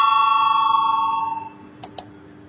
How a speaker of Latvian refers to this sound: Lūdzu zvanu, balsosim par septīto deputātu Nemīro iesniegto priekšlikumu. Lūdzu balsosim.